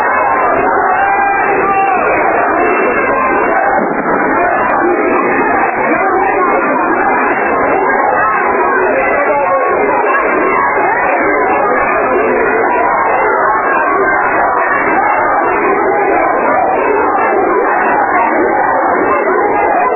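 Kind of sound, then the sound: crowd, protest crowd shouting chants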